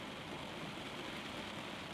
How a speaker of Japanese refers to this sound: 外は変わらず雨だ。